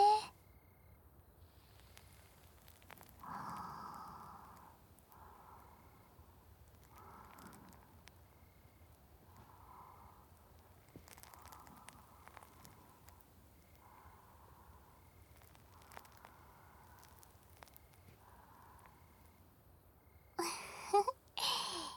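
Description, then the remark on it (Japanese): Close, soft fizzing crackle from a cotton swab dipped in fizzy carbonated soda, massaging inside the ear, rubbed in slow repeated strokes about every second or two, with a louder rustling burst near the end and no talking. “このシュワシュワ炭酸に綿棒を浸してお耳の中をマッサージしてあげます。”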